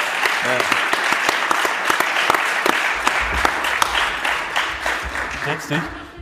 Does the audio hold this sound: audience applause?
yes